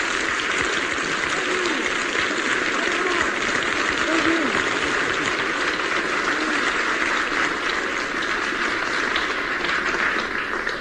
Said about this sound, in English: I recognize the applause.